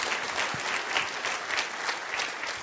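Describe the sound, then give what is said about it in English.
Steady applause from a large convention audience, dense overlapping claps at a consistent moderate level throughout, with no voices standing out. “Please give yourself a round of applause.”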